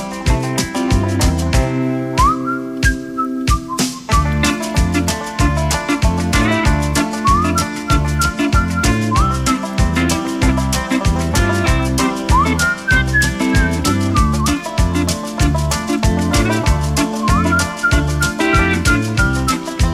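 Whistled phrases with short sliding notes ride over a steady, busy musical backing with a rhythmic bass pulse, recurring every few seconds and fairly quiet in the mix.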